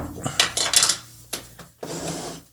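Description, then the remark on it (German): Ice cubes rattle and clink against a glass in a cluster of bright, scraping bursts, followed by a couple of sharper clinks and a softer jostling rattle. “Was sind das denn für Zwischengeräusche? Ach so, das sind die Eiswürfel.”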